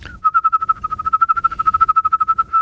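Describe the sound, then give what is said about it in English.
A person whistles a steady, clear tone at one pitch using an inhaling-and-exhaling technique, pulsing rapidly and evenly as the breath switches back and forth. It is fairly loud, with no talking. “Inhaling and exhaling.”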